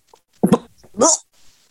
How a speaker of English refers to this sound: Uh-oh. I hear cat noises.